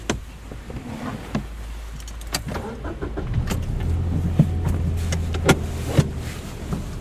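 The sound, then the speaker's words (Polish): During a driving lesson, a car engine starts up and idles low, then rises in pitch as the learner driver begins pulling away, with a few sharp clicks and knocks from inside the cabin along the way. “Jadę. Dobrze. Jadę. Tak jedzie pani.”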